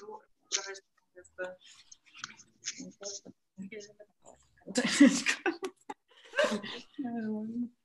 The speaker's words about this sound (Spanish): Yo voy a usar esta. Voy a usar mi tarot nuevo. Mi tarot egipcio. Voy a barajar y respondemos todas.